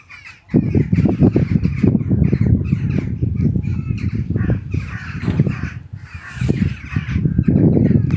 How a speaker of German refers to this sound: Da hatte der Tag dann langsam auch schon begonnen und die ersten Vögelchen hatten schon zu zwitschern begonnen.